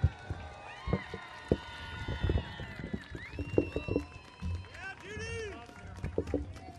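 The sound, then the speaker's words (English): An audience applauds as Goldman Environmental Prize winner Judy Bonds is brought up, the clapping scattered and uneven at first, then steadier, with shouts and cheering voices rising over it throughout. “Big round of applause, Judy Bonds.”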